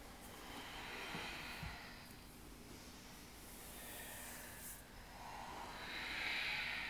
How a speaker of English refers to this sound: Some good breathing there, tapping into Ujjayi breath. Sound of the waves.